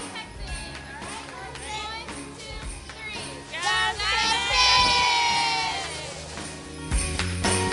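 A child shouts a loud, high-pitched cheerleading cheer in sing-song bursts, rising and falling over the constant chatter and noise of a crowd.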